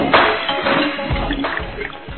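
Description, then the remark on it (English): A baseball game audience applauds loudly as Haefley goes back out to center field, a dense, steady wash of clapping and crowd noise with occasional low thumps, lasting a couple of seconds without letting up. “Well, right as I come back, there's a loud applause from the audience as Haefley is able to take himself back out in the center field again.”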